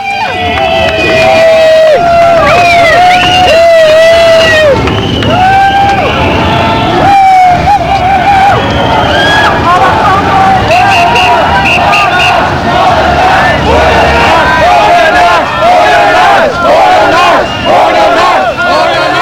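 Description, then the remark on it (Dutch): A loud crowd of demonstrators chants slogans in unison at the police headquarters, voices rising and falling in repeated shouted phrases over a constant roar of babble for the whole stretch. “De demonstranten beperkten zich tot het roepen van leuzen zoals bij het hoofdbureau van politie.”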